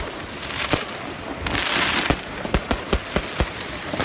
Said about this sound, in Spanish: En un ratito juegan Champions contra el Ajax y varios aficionados ultras pues se han dedicado a lanzar petardos y fuegos artificiales para que los jugadores blancos pues no pudieran dormir.